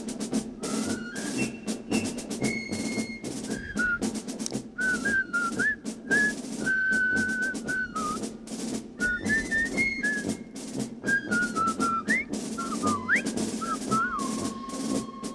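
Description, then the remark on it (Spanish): A bright, bouncy whistled march melody from the soundtrack of the film The Bridge on the River Kwai, the Colonel Bogey tune, carries over a full band accompaniment with a steady, punchy marching beat throughout. “Dice, me viene la banda sonora del puente sobre el río Kwai.”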